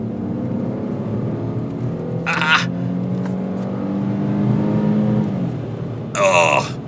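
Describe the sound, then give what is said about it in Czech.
The engine of a Smart Cabrio car revs steadily, its droning pitch climbing and holding for several seconds, with two short hissing bursts breaking in, one early and one near the end. “Já jen poprosím hudební režii, aby nám nedomrlý zvukový projev auta pomohla napravit něčím, co je naopak pořádně našlápnutý.”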